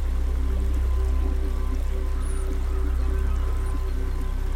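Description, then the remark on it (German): A river babbles steadily and continuously, a moderately loud, unbroken wash of flowing water with a low rumble underneath and no voices. “Das gleichmäßige Plätschern des Flusses beruhigt uns.”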